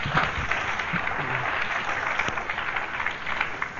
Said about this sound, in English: Can you give Jesus a clap offering?